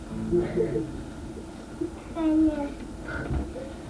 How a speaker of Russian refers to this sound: Избил ребенка, плачет, да.